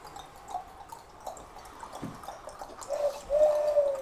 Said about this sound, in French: C'est la ritournelle de la tourterelle qui m'a réveillée.